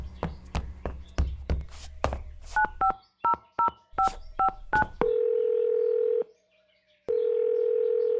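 A phone number is dialed with a quick run of about eight electronic keypad beeps after some tapping and clatter, then a steady dial or ringing tone sounds twice with a pause between.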